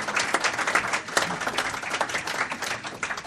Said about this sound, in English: Why did you just give him applause? Well, Mary, I have to. It's in his contract. You mean you give him money and applause, too? No money, just applause.